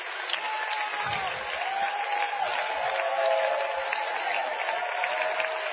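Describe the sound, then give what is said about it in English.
Steady applause from an audience fills the whole stretch, a dense patter of many hands clapping at an even, moderate level without a break, with faint voices mixed in. “Give him a hand, would you?”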